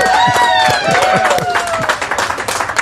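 people applauding

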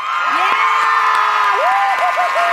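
crowd applauding and cheering

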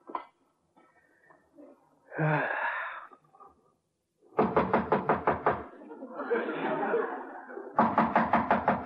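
knocking on a door

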